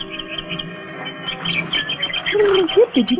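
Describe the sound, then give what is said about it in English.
Pigeons coo in a tea garden while being thrown crusts of bread, a few low, rolling warbles rising toward the end over a steady outdoor murmur, with no one talking. “I was spending my afternoon off in the tea garden, sitting on a bench and throwing crusts of bread to the fat, pompous pigeons.”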